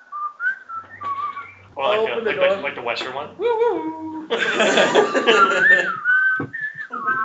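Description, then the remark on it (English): A person whistles a short, wavering tune while coming down the street, clear, breaking off for a few seconds of overlapping voices before the melody picks up again at the end. “you hear whistling coming down the street.”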